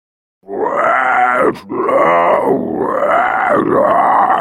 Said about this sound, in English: The creature growled. Rachel blinked. It wasn't a growl, exactly. It sounded like it had actually been words.